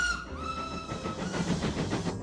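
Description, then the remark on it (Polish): A steam locomotive lets out a whistle and then pulls away, its chuffing puffs starting up in a steady, quickening rhythm, moderately loud with no talking. “Dzisiaj proponuję wycieczkę w przeszłość parowozem. Proszę wsiadać i ruszamy.”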